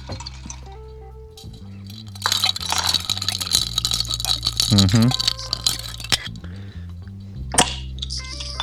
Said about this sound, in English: We're gonna give it a bit of a stir first. We're gonna agitate that up a little bit.